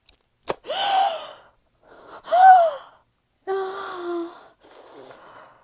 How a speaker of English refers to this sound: I'm gasping, catching my breath.